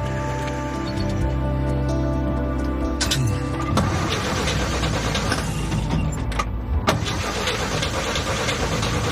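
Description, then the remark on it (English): A truck engine, which gets a little finicky sometimes, cranks and sputters, struggling to catch before roaring into a rough, uneven run, fairly loud with no voices. “Enrique gets in his truck.”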